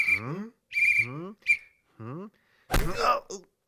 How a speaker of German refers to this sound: Das ist ein Vampir. Vampire sind aber wirklich unheimlich. Nur warum pfeift er so? Na, ist doch klar. Wegen der Kokosnuss.